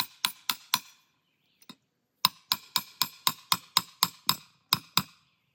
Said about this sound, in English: Now this ground's pretty hard. So what we're going to do is we're going to go ahead and hammer this trap because it needs to be setting up. Kind of at an angle is the way I like to do it, honestly.